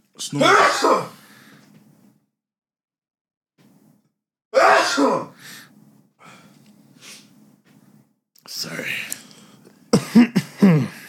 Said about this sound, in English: Sorry. Oh, you follow up with cough as well. Sorry. Man. Amazing. Sniffing followed up.